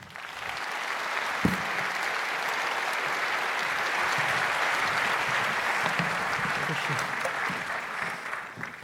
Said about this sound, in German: Bitte einen sehr herzlichen Applaus für die beiden.